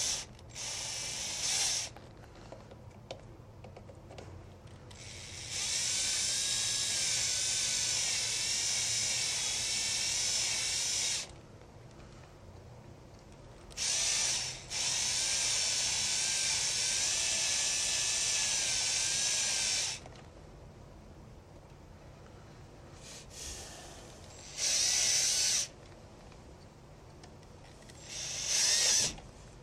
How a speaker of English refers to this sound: I totally love the cordless drill. It's like one of the most useful tools you could ever have. Love, love, love this thing. It is so much stronger than I am.